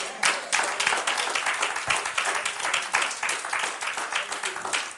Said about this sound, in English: Anybody want to give God a hand clap right there?